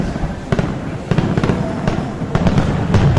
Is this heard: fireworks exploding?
yes